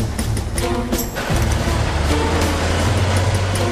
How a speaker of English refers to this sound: As the truck pulls away, Jasper spills his coffee.